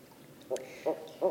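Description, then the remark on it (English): Three short owl calls from a barred owl family, evenly spaced and moderately loud, with a faint high squeal-like note between them as the young talk to their parents. No one speaks. “These are barred owl families. The babies make very high-pitched squeals as they talk to their parents, and I think they're saying, "I want those mice.”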